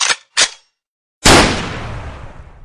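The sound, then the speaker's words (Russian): A rifle gunshot: two quick, sharp reports, a brief pause, then one loud blast that rolls off into a long, echoing tail. No voices. “сидевший на тендере с углем, сделал неверный ход, подставив себя под выстрел, и проводник прихлопнул его козырным тузом.”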